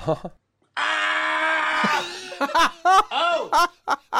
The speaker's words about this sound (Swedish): Först är det där skriket när Chris Härenstam för in pinnen i näsan på han.